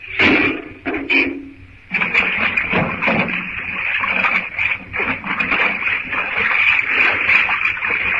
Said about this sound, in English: If he opens the door, the water will rush out. And then it'll be high enough to let the boilers. When the door opens, hang on till the first rush of water is over.